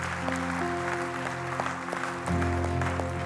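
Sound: audience clapping in praise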